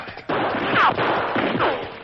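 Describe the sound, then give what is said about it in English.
Gunshots ring out over a rough, noisy background, followed by two high whining streaks that sound like bullets ricocheting past, the bullets coming close to the Lone Ranger and Tonto as they run for their horses in bright moonlight. No one speaks. “The bullets came close.”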